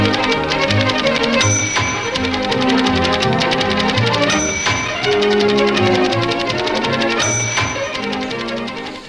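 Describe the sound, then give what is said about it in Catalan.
Rapid, steady typewriter keystrokes clatter over loud, lively orchestral music, with a bright carriage bell dinging every few seconds as the rhythmic typing carries on throughout. “que passa la màquina d'escriure.”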